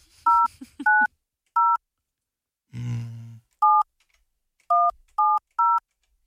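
telephone number being dialed

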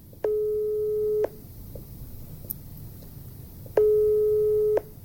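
telephone ringing tone

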